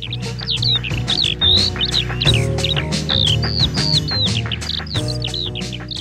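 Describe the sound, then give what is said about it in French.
In Souraïde, birds chirp and tweet continuously, quick bright calls repeating close together over a steady low background hum of a light breeze. Nobody speaks. “À Souraïde, sous le chant des oiseaux et le murmure d'une brise de vent”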